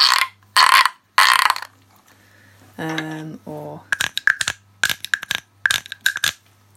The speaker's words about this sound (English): … came about because of my collection of instruments, which is quite big and out of control, really. And it includes not even one, more than one instrument in the shape of a frog. And they sound things like this.